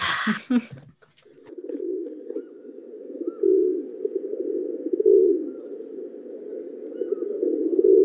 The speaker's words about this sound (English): The rock pigeon. The deep fake. The real bird. Columbia Livia. Also called a rock dove, or just a pigeon.